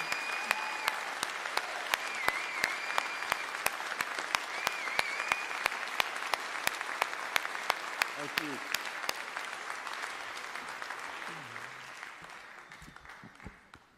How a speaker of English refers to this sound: If you would all please rise again and give our Madam Chairman another round of applause and thank you for her service as we accept her resignation.